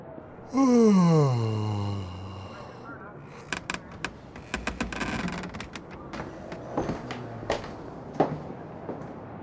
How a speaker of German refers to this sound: Er gähnt, kratzt sich am Kopf und bleibt noch ein bisschen liegen.